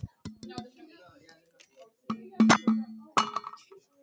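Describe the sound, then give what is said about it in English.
A metal water bottle clinks and knocks in a few sharp, ringing strikes, some in quick pairs, with a steady metallic hum lingering after the louder hits. “I repeat, it is a metal water bottle.”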